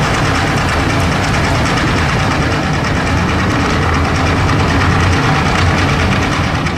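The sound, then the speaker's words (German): A tanker ship's engine noise recorded underwater by microphones meant for whale songs: a loud, unbroken drone dominated by low rumbling, with dense hissing texture layered above and a faint rapid pulsing throughout. No voices. “Sehr eindrücklich waren dann die Geräusche von den Tankern, die von Unterwassermikrofonen aufgenommen werden.”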